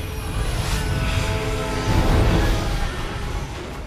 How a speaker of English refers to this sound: The X-Jet descends from a cloud of thick smoke and lands on the roof of the lab.